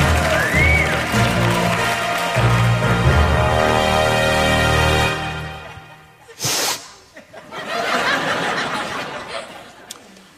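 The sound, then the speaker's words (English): The crowd at a band's show applauds and cheers loudly and steadily for about five seconds, welcoming a performer introduced as President Donald J. Trump, dips to near quiet with a short sharp burst, then the clapping and cheering swell up again. “And now, give it up bigly for your president, Donald J.”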